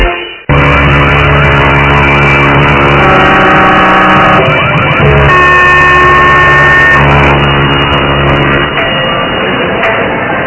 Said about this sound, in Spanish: Alarmas, hay muchas.